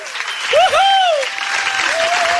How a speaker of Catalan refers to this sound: Fortíssim aplaudiment! Clar que sí!